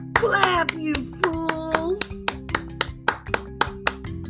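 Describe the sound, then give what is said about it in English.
Applause for a band after a song: sharp hand claps land in a steady, even rhythm, about a dozen in a row, over a sustained humming tone, with a burst of voices and noise at the start. “Applause for the … was deafening.”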